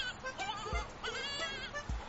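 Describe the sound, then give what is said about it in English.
A screaming goat sound button toy plays a goat's loud, wavering scream-like bleat, harsh and strained, sustained with quivering harmonics, with soft low thumps underneath, heard alone. “We have the screaming goat button.”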